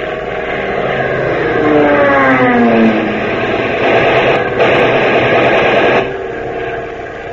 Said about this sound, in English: Watch that plane. It's diving.